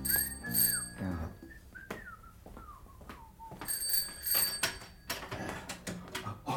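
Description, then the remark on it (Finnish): A small but loud doorbell at the narrator's head office rings in two bursts of rapid, shrill metallic trilling, with a brief lull of softer gliding tones between them; no one speaks. “Tuurini taisi kuitenkin jatkua, koska juuri kun olin toipumaisillani edellisen illan porolihamarkkinoinnin rasituksista, suvaitsi Don Rolando Carleone soittaa pääkonttorini pientä, mutta äänekästä ovikelloa.”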